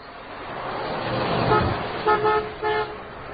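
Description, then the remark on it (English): A car driven by Minnie from down the road rumbles past, its engine swelling and fading, then the horn gives two short honks in quick succession as it goes by. “She always honks when she passes by.”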